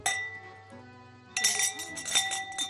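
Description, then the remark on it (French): Wind chimes in the small town of Orebić ring with sustained, overlapping tones, then a cluster of bright, high metallic strikes tinkles in irregularly and keeps shimmering. No one speaks. “C'est un carillon.”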